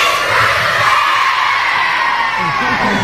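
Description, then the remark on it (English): An audience of children shouts out together on a count of three, naming the teacher they think was nominated: a loud, dense burst of overlapping young voices that stays steady for a few seconds, energetic. “On the count of three, I want you to yell out who you think is, okay?”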